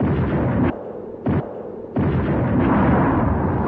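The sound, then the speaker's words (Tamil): A huge, ground-shaking explosion as a vehicle driven toward an army camp blows up, razing a large multi-storey building: loud, deep roaring blasts with a brief lull, a short burst, then another sustained rumbling roar that fills the rest. No voices are heard. “சில நிமிடத்தில் நிலத்தை அதிர வைத்துக் கொண்டு பாரிய வடியோசை எழுந்தது.”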